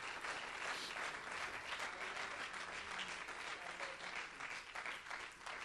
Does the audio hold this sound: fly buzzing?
no